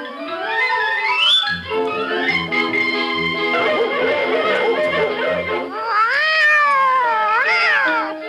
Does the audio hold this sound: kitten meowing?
yes